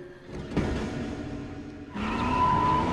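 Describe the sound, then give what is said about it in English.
A car engine starts up with a rumble and rises as the vehicle pulls away, a steady loud drone of motor and road noise with no voices. “As they drive off, Felix spots Dakota.”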